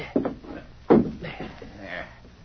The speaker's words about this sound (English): We got to make it look like there was a fight in this room. Kick that chair over while I scuff up the rug.